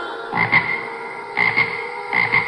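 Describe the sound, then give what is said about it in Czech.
A tree frog croaks in three short, evenly spaced bursts, each a raspy double pulse, loud, over a faint steady background hum with no voices. “Tu spatřila, že v altánku si hoví trávově zelená rosnička, která měla na hlavě místo čepce růžový lístek.”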